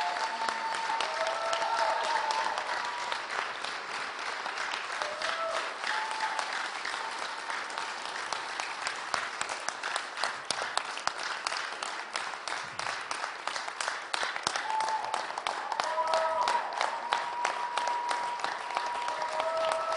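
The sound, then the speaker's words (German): An audience applauds steadily for about twenty seconds, a dense, loud wash of clapping with a few faint voices and whistle-like tones rising above it. “Lass uns einen kräftigen Applaus.”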